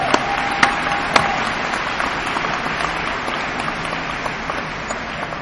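A crowd claps steadily to give God a clap, a dense wash of overlapping hand claps with a few sharper individual claps standing out near the start, holding at an even level throughout with no voices.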